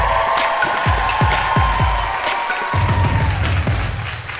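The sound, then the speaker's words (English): A crowd cheers and applauds loudly and steadily for the final act of the evening, with a held whistle-like tone running through the roar and a series of sharp, rhythmic thumps punctuating the noise. “Make some noise, please.”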